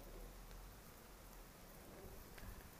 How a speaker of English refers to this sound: I hope that there's not too much background noise. I'm standing outside my front door in pouring rain.